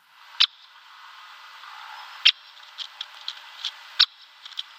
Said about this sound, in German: Mein Bruder und ich haben ihn immer den Kixer genannt, weil es so klingt wie ein Kicks, den Kicksmeister. Also mit K, Kixer. Genau. Wir hören jetzt nochmal den Buntspechtruf.